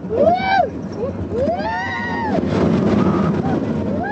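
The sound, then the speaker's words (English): A rust-blistered roller coaster, the prime attraction of a fair in Baghdad, rumbles and rattles along its track against a setting sun, a steady mechanical roar swelling after a couple of seconds, while riders let out several rising and falling shouts. “Against a setting sun, the fair's prime attraction cranks into action.”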